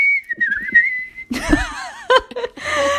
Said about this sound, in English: Get your whistles ready. Start polishing your whistles.